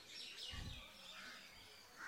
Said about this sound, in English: If nothing else, listen to the birds. Просто послушайте, как поют птицы.